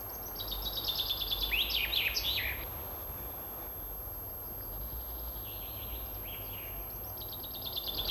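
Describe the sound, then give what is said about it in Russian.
A common chaffinch sings a bright, descending trill ending in a flourish, then further fainter phrases follow against a steady low background hum. “Это поет зяблик.”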